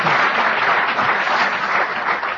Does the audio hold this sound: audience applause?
yes